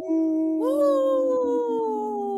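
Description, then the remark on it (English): A single wolf howl, loud, holding a steady tone that rises sharply partway through and then slowly sinks, sustained for a couple of seconds with no talking. “In this portion of the show, we like to bring awareness to our Minnesota wolf population.”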